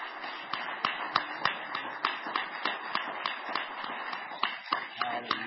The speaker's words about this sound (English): Let's give the Lord another hand clap of praise as we're seated.